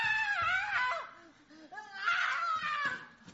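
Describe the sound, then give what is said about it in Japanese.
An adult voice imitates a roughly seven-year-old boy's screaming tantrum in a supermarket: loud, wailing, high-pitched cries that rise and fall over a few seconds, unaccompanied. “子供がストアに行って叫び始める。”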